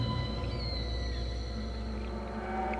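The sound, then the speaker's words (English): Underwater whale calls with long, gliding tonal moans and sweeping high whistles over a steady low rumble, continuous and moderately loud throughout. “Oh, can you translate what those whales are saying?”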